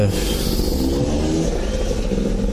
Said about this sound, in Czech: No tak, teď tady zrovna máme nějaký závodníky.